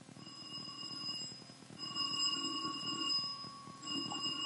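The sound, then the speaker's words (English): An electric doorbell rings at Christmas in three long bursts separated by brief pauses, a bright, insistent metallic trill that sounds steady, with no one talking. “What time will the doorbell start ringing?”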